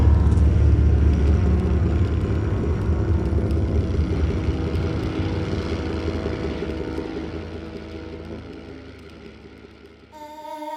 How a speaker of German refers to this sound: Die Traktoren schnitten eine gerade Linie durch das Land. Die Luft und der Boden vibrierten unter ihrem Donner.